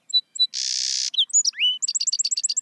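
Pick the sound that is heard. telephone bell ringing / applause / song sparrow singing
song sparrow singing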